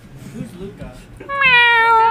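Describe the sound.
A person gives one loud, drawn-out imitation of a cat's meow, steady with a slight downward slide, after a brief stretch of quieter low vocal sounds.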